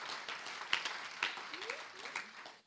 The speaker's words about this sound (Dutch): Ga lekker klappen.